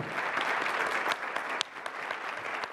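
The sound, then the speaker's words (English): An audience applauds a panel at a World Affairs Council program, clapping steadily for a few seconds, a dense wash of many hands with occasional sharper individual claps standing out, sustained at an even level with no voices. “Let's all give these guys a great hand of applause.”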